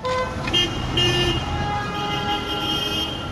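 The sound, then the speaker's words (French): Dense, chaotic rush-hour city traffic in Beirut, Lebanon, near the Jaitaoui quarter in the east of the city, rumbles steadily while several car horns toot and blare in overlapping bursts, some sustained, creating a busy, congested street scene. “Je suis en train de m'éloigner de la circulation chaotique qui caractérise Beyrouth aux heures de pointe.”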